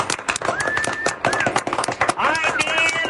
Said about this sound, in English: Listen to that crowd. How are you? There's your answer. Right there. Does that tell you anything?